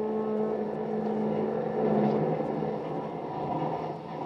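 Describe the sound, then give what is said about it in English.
A sleek, long streamliner passenger train rumbles steadily as it pulls out of New York, its engine drone and rolling hum loud and continuous, swelling slightly midway, with no voices. “A sleek, long streamliner heads out of New York.”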